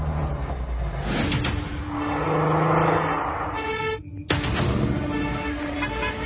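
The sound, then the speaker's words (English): The engine of an expensive luxury car with Ukrainian plates in Monaco rumbles and swells into a louder rev midway, then dips briefly before settling back into a steady throaty idle, with no one speaking. “It's all these expensive luxury cars in Monaco with Ukraine plates.”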